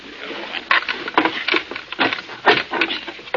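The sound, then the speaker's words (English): A blunt screwdriver chisels away at a wooden door jamb to get at the lock, in a series of short, uneven scraping and gouging strokes, roughly eight or nine in a few seconds, moderately loud with no talking. “Well, this screwdriver isn't very sharp, but I think I can chisel enough of this door jamb away to get the lock.”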